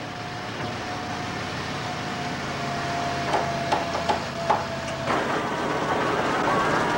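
A pickup truck's engine drones steadily as it approaches the Landscott construction site, a few short clunks sound as it pulls up and stops, and the engine hum cuts off, leaving a broad outdoor background noise.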